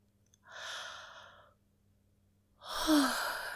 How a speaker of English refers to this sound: Yawn if you want to.